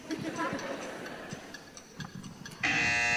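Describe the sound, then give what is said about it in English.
A steady clock ticks away for a few seconds while quiz contestants write down their answers. Then a loud, harsh game show buzzer blares abruptly and holds to the end. “Beulah the buzzer for those of you old enough to know what I'm talking about”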